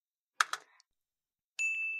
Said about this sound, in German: Ich hoffe, dass jetzt, mal schauen, ob der Buzzer jetzt funktioniert, aber wir sehen es ja hier.